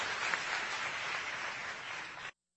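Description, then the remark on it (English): An audience of about 1,500 people applauds a panel with steady, dense hand clapping, a bright crackling wash of many hands that holds level for about two seconds and then stops abruptly, with no voices. “Let's give our panel a continued hand clap of appreciation for their thoughts, comments, passion, and dedication at work.”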